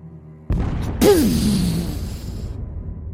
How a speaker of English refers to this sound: An explosion rocks the bow of the ship. Huge flash of light.